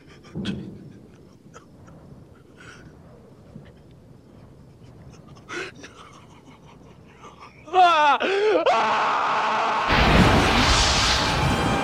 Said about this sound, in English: His scream is an amazing scream. And I have never watched that movie and not marveled at the feeling I feel when I hear this primal scream of pain and rage and anger and frustration in that moment. It's so believable